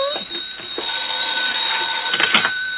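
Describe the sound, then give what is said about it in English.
A telephone rings with a steady, high electronic warble that holds for the whole stretch, its bright tones staying level while a few soft bumps and rustles sound underneath. “We'll answer the phone together.”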